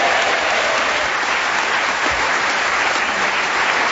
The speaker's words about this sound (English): A round of applause for Paul Merton.